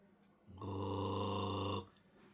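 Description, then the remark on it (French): A low, steady animal growl swells in and holds for just over a second before cutting off, loud, with no voices around it. “Elle dormait depuis un bon moment quand elle fut réveillée par un grognement.”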